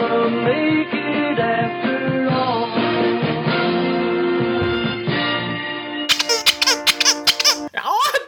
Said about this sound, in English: Squeaky kitty was the kitty. It's true.